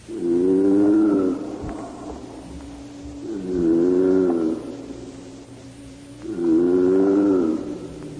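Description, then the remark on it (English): A 400-year-old tortoise calls its mate: three long, low groaning calls repeat at a steady pace, each a loud throaty moan whose pitch swells up and sinks back down, with brief quieter gaps between them. “Or the throat of a 400-year-old tortoise calling its mate.”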